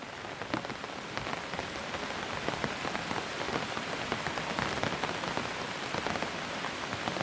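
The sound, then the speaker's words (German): Raindrops patter steadily on the taut fabric of an umbrella at night in an old town, a dense stream of quick soft taps over a continuous hiss, holding an even, moderate loudness throughout with no voices. “Die Tropfen prasseln gleichmäßig auf den gespannten Stoff über dir, und jeder Laut klingt wie ein sanftes Klopfen, das dich tiefer in diese besondere Nacht hineinführt.”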